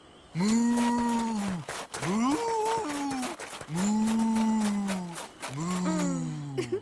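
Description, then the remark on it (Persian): A person's voice imitates a cow mooing in four long, loud, drawn-out lowing calls with brief pauses between, with no other talk. “گاوا دیگه چی کار میکنن؟ جز ما کشیدن و نشخوار کردن کار دیگه این بلدن؟”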